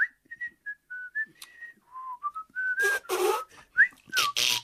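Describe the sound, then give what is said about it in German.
A master carpenter in a good mood whistles a wandering melody to himself after work, clear pure notes gliding between pitches, with a few breathy bursts and rustling sounds toward the end. “Und da hat er nach Feierabend vor sich hingepfiffen.”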